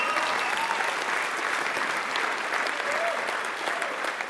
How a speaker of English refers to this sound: You should give God a celebration clap for that.